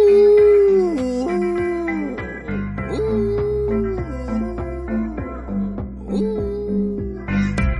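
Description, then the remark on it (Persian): A dog whimpers and howls in drawn-out, wavering cries that slide down in pitch, repeating several times, with a steady droning tone underneath. “یه وقتایی کمونه میکنه میخوره به سگم.”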